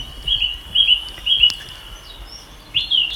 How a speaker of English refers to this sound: it's a thrush. That's a thrush.